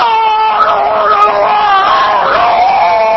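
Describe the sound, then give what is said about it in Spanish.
A patient at the dentist screams in a long, loud, wavering wail that barely breaks for the whole stretch, strained, with no talking. “Porque si usted va al dentista, por ejemplo, sí, y se siente en la sala de espera y ya oye los gritos del que está dentro.”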